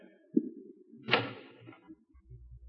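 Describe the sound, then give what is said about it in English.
A door being unlocked: a small click, then a sharper metallic clack that rings briefly and fades, with soft low thumps afterward. No one speaks. “you want to unlock this door?”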